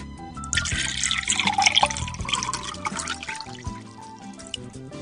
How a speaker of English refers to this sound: Now let's pop that bottle of wine, red or white. Pour a glass for each other or just for yourself.